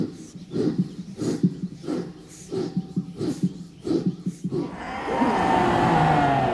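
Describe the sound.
A group of yoga students crawling on all fours give short, rhythmic vocal bursts, then break into a loud, sustained collective roar, imitating lions at their guru's direction.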